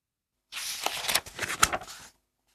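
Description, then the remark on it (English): A long strip of paper is folded and cut into two short strips. A crisp rustle and crinkle of folding paper is followed by a couple of sharp snipping cuts, lasting under two seconds with no voices. “Take one of the long strips. Fold it. Cut it. Now you have two short strips of paper.”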